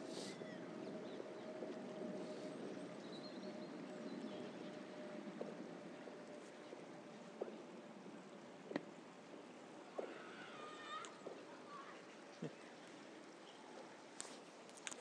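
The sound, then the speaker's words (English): River water rushes rapidly beneath a narrow bridge in sunshine, heard while walking across the bridge, in a steady, full hiss with a faint constant hum underneath, punctuated by occasional soft knocks and a few brief high chirps; nobody speaks. “we can listen to the water flowing underneath quite rapidly”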